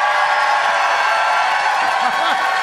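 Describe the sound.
A studio audience in Saskatoon applauds and cheers to vote for the winner of a debate, a steady, loud wash of clapping and voices, with a few rising whoops near the end.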